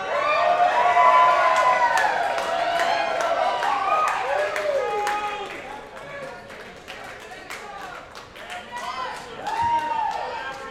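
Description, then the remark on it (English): A large live country music concert crowd in Georgia cheers and applauds, with many overlapping whoops and shouts over steady clapping; the roar stays loud, eases slightly midway, then swells again near the end. “listen to this Georgia crowd.”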